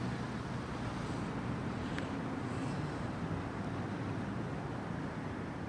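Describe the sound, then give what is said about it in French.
Steady wind blows without pause by the ocean, a low rumbling rush that stays at an even, moderate level throughout, with no voices present. “Puis du bruit du vent.”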